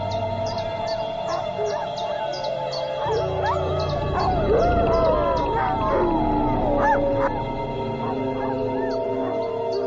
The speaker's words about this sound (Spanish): Monta unos altavoces fuera del recinto, desde los que suenan unas grabaciones de lobos de otra manada. ¿Responderán sus lobos con el aullido adecuado para mantenerlos alejados?